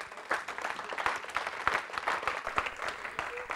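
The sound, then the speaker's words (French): A crowd applauds the technical team steadily, many hands clapping in a dense, continuous patter with a few sharper claps standing out, moderately loud and filling the whole stretch. “Est-ce qu'on peut applaudir tous ceux qui servent à la technique ?”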